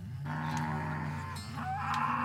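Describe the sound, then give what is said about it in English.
Several cattle moo together in a steady, overlapping chorus of low, drawn-out calls, loud, with a rising bellow near the end and no one talking, as the herd is moved by riders on horses with dogs in Florida. “As we begin to move the herd, an epic scene began to take shape. The horses, the dogs, the scenery, the sounds.”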